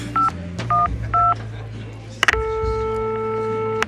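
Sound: telephone number being dialed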